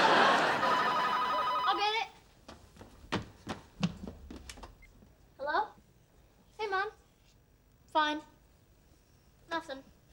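A telephone rings loudly for about two seconds, then cuts off. A few sharp knocks and thumps follow, along with several short vocal bursts spaced a second or so apart.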